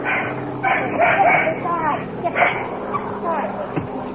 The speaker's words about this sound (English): Oops. Woke the dog. You're a little late, fella.